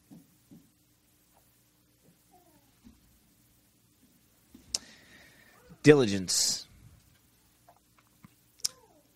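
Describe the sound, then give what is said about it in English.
Scattered keystrokes tap out irregularly on a new computer keyboard while a word is being looked up, mostly soft with a couple of sharper clicks, broken by a brief vocal sound partway through. “I gotta use this new keyboard, man.”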